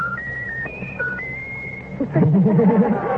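A pet bird whistles a short tune of clear, steady notes that step up and down in pitch for about two seconds, then a person's voice speaks over it, telling the bird to whistle its favorite tune.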